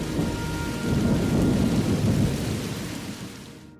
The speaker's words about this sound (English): Over the next 12 hours, the storm returns again and again. If this bad weather continues, the crew may not be able to get back out to the Dolphin.